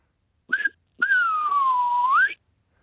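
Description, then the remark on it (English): A person whistles a distinctive signal call in two parts: a short note, a brief gap, then a long sustained tone that slides slowly downward before sweeping back up. Clear, with no talking. “Oh, I can probably try whistle it.”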